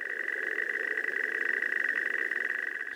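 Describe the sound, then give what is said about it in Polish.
A river warbler's song played back slowed down, a steady, rapidly pulsing mechanical buzz that runs unbroken and fairly loud for the whole stretch, with no voices. “Posłuchajmy tej brzęczki na przykład w zwolnionym tempie.”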